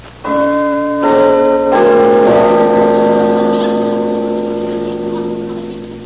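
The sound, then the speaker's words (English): A large house bell, rung by pulling a bell handle, clangs three times in quick succession, each ring rich and resonant, then a long humming decay fading slowly with no voices. “Pull the bell handle.”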